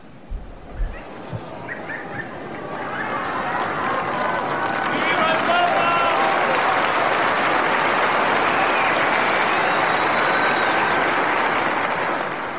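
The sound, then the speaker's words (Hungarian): Sustained crowd applause at the end of a Wednesday morning general audience rises after a few scattered sounds, swelling into a dense, steady wash of clapping with faint cheers and voices mixed in, continuing loudly to the end. “Kedves hallgatóink, ezzel a köszönéssel, köszöntéssel és tapssal ér véget a mai szerda délelőtti általános kihallgatás.”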